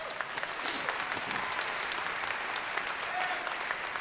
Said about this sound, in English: That was spontaneous applause. That was not the automatons of my cult. That was real human beings appreciating you.